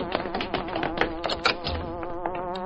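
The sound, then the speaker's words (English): A loud hornet-like buzzing from the Hornet's car passing by, a steady droning tone whose pitch wavers up and down for a few seconds, with no talking over it. “Listen! The Hornet, right outside.”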